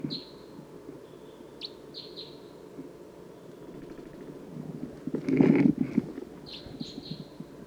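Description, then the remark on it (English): An orange or yellowish wild bird gives a series of short, high-pitched chirps in scattered bursts over a steady low background hum, with a brief louder rustling thump partway through. “there is an orangish or yellowish bird approaching and looking down.”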